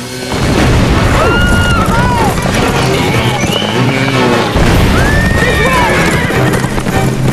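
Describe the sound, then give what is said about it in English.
Horses whinny and neigh repeatedly over pounding hooves while grenades explode by them during a chase through rocky terrain, with heavy explosive booms rumbling in a loud, dense, chaotic din that never lets up. “While grenades explode by the horses, Flynn and the Indian duck.”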